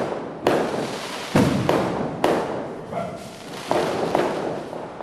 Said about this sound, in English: As I watch the skies fill with shooting stars and the night resounds with firecrackers and the street dogs howl,